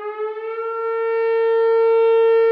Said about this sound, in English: Fire Chief Chris Kazian is making do with an old emergency siren